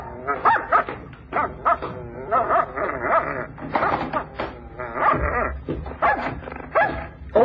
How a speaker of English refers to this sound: Are you sure the dog don't bite?